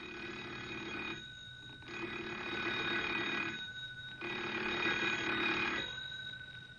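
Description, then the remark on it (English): A telephone bell rings loudly and insistently in long bursts, three rings separated by short pauses, with no one speaking, in a small general store. “They're sitting in their rocking chairs contemplating their fruitless trip, while the telephone rings loudly.”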